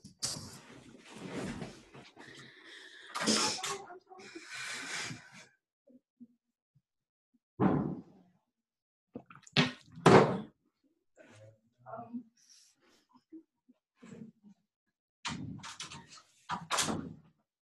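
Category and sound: household object, knocking on a door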